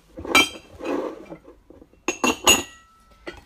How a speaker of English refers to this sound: I thought I'd let you hear the sounds of the dishwasher being emptied, which I'm sure is absolutely riveting.